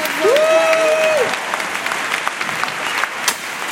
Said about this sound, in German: Nur noch einen Applaus für den Gewinner. Ganz richtig, Applaus für den Gewinner, das gibt's doch nicht.